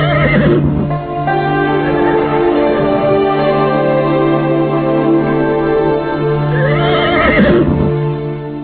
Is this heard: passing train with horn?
no